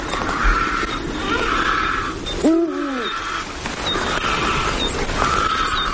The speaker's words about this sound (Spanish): En un cortado rocoso, por ejemplo, esto es Monfragüe, escuchamos un búho real que está llamando, un roquero solitario que es un pájaro de la piedra, y esos graznidos de fondo como que lo están matando, es un buitre leonado en una repisa, ¿no?